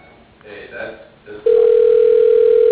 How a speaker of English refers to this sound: I'm about to get my second continuous ringing for 2 minutes straight.